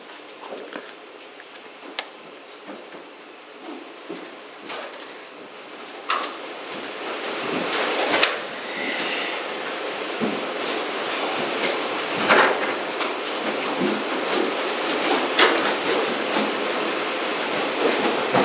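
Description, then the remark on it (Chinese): Chairs at the front are dragged and shuffled across the floor as church members arrange them into a circle for a group discussion. A steady rumble of scraping is broken by scattered knocks and clacks, busy for the whole stretch, with no one speaking. “好，没有，我们弟兄姊妹可以把这个前面的椅子摆一摆，摆成一个圈，可以一起来分享讨论。”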